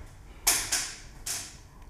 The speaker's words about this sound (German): Ja, da knackt der Stuhl vor lauter Lügen, ne?